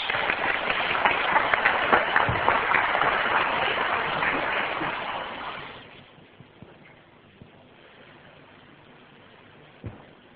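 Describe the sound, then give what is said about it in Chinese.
A large crowd claps warmly and steadily for about six seconds to welcome Dr. Zhuang before his talk, a dense, loud wash of applause that then fades away to quiet with only faint rustles. “现在好不好，我们一起用热烈的掌声来欢迎庄博士。”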